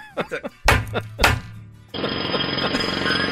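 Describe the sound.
After a brief voice, two loud, heavy hammer strikes ring out about half a second apart, followed by a steady, harsh rattling like a power tool running.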